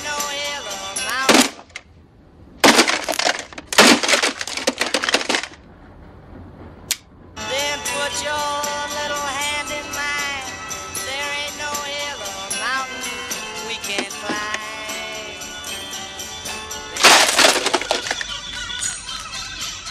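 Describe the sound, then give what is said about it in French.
Bill Murray in the film Groundhog Day (Un jour sans fin) smashing his radio alarm clock: loud, sharp cracking smashes in quick irregular bursts, followed by the radio playing music and voices that keeps going underneath, interrupted by another cluster of crashing blows. “Bill Murray, dans Un jour sans fin, qui s'acharne contre son radio-réveil, fatigué de se réveiller toujours dans la même boucle temporelle.”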